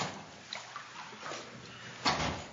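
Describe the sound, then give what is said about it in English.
Water sloshes and laps in a baptismal pool at a church baptism, a soft, irregular churning with a few small splashes and one fuller slosh near the end, heard fairly quietly with no one talking. “We'll leave the water in here if we need to come back and do this next Sunday.”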